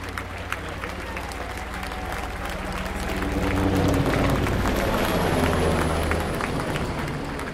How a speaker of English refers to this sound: Here we go. Listen to this helicopter. We're going to go past us right now.